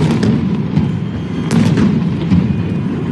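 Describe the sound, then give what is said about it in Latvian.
Repeated sharp bangs of stun grenades used by police against protesters burst over a loud, continuous outdoor rumble, with a few sudden blasts standing out amid the dense background noise of a night street protest in Minsk, Belarus. “Minskā policija atkal izmantojusi pret protestētājiem asargāzi, gumijas lodes un trokšņa granātas.”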